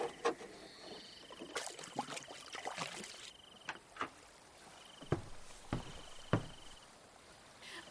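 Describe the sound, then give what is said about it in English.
Rowing a boat through rising tidal water in the Hara Forest on the Persian Gulf: irregular oar strokes splash and gurgle, followed by drips and a few sharp knocks, with no talking and a soft steady hiss in the background. “Oh, the water is rising and I can gradually ride a boat for roaming in the forest.”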